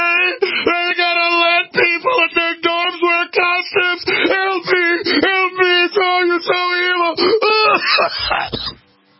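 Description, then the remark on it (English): A woman in a crowd shrieks and wails loudly and continuously, her high voice rising and breaking in long strained cries with brief gasps between, before trailing off abruptly at the end. “Let's go out to break with our shrieking.”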